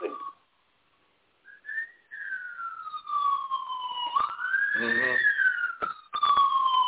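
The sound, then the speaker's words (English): A police siren wails in a long, slow rise and fall in Los Angeles, steady and fairly loud, with a brief voice heard under it partway through. “We got some type of police action here in Los Angeles.”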